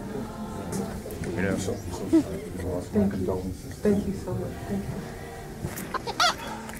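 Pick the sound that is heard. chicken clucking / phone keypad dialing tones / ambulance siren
chicken clucking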